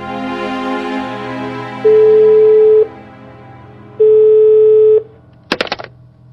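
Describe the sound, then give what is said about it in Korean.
Two steady telephone ringback tones of about a second each, separated by a pause, play over a low background hum as a call is placed to Chongryon vice chairman Heo Jong-man, followed by a brief clatter as the line is picked up. “후지무도는 불길한 예감이 들어 서둘러 총련 책임 부의장 허종만에게 전화를 건다.”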